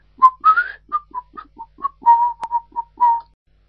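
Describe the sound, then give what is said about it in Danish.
Someone quietly whistles a wandering little tune while absorbed in a book: about a dozen short, breathy notes, some sliding upward, in an uneven rhythm, with no other sounds around. “helt opslugt af sin bog og stille fløjtende.”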